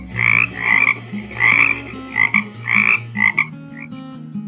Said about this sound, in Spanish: En una noche de pleno invierno, en un ambiente selvático, alumbrada por una enorme y redonda luna llena, una hermosa ranita vestida toda de verde claro, croaba y croaba.